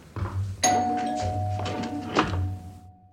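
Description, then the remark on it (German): A doorbell rings: one bright chime strikes sharply and its steady tone lingers for a few seconds, over a low hum and a couple of dull thumps. “Die Tür.”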